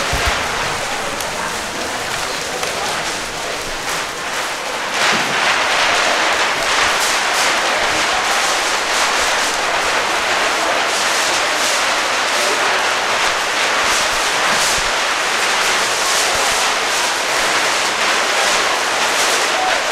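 A long roll of butcher paper unrolling with a steady, crackling hiss as it is passed along a row of audience members in an auditorium at the Getty for the Scroll Symphony. It grows louder after a few seconds and runs on without pause, dotted with faint crinkly ticks.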